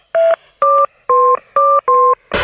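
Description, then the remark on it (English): Five loud phone keypad tones, each a steady dual-pitch beep of about a fifth of a second, pressed in an even rhythm with different pitches forming a little tune, then a burst of noise. Steve Jordan is playing a song on the phone keypad for the Off the Hook game on Century 106. “Guess the song that Steve's playing on the phone keypad and win cash.”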